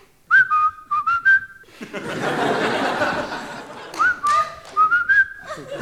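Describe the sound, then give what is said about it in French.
A person whistles the Colonel Bogey March, the music of The Bridge on the River Kwai, imitating a parrot that whistled it: bright, clipped melodic phrases, broken in the middle by a loud burst of laughter, then the whistled tune resumes. “Tout le monde connaît la marche du colonel Boguet. C'était la musique du pont de la rivière Kouaï.”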